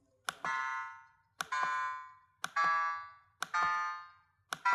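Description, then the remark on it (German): Data sonification tones representing new wind power capacity added from 1997 to 2005: a steady series of five synthetic notes, roughly one per second, each opening with a sharp click and a bright, buzzy tone that fades before the next. No one speaks. “Sie hören die Entwicklung eines Wertes, der anhand von Farbe und anhand von Ton dargestellt wird.”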